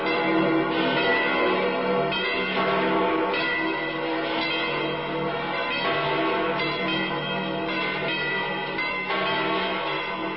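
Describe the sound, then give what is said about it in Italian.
The church bells of St. Peter's Basilica in the Vatican peal continuously in a dense, overlapping wash of ringing tones, loud and reverberant, with strikes blending into a sustained clangor and no voices present. “Aumenta l'interesse intorno al satellite, anche il Vaticano, di cui abbiamo ascoltato in sottofondo le campane di San Pietro.”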